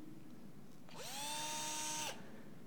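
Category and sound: tool, power drill running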